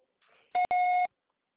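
A telephone voicemail beep: a short electronic tone sounds twice, a brief blip followed by a longer steady beep lasting about half a second, loud and clear with no talking.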